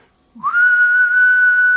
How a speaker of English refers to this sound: Now, in order to make that whistle, you have to kind of shape your mouth a certain way, and you have to direct air forward a very specific way.